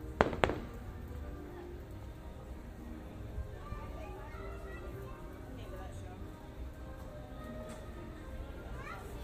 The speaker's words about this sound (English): Oh boy. Oh, fireworks.